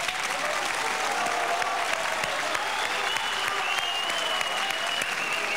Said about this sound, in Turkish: bir alkış alabilir miyim?